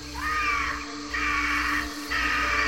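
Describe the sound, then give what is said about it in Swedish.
A hunting eagle, just released by its master in a Mongolian hunt to catch a crane flying ahead of it, screams shrilly and harshly three times in quick succession in the high spring air. Each cry is loud and drawn out, with a steady low rumble of wind or background noise underneath. “Genom den höga vårluften skär det gälla skriet från en rovfågel som fått byte till sikte.”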